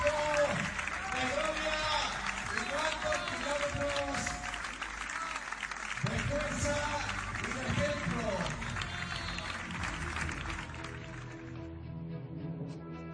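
A large crowd gives a sustained, loud ovation at a race finish, with dense clapping and excited shouts and cheers that continue throughout and thin out slightly at the very end.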